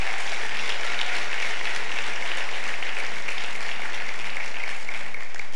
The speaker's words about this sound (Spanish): ¿Por qué no le damos un aplauso a Dios? ¿Sí?